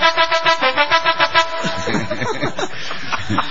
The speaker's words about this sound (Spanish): Y si no, tenemos las bocinas con... Con melodías. Con melodías.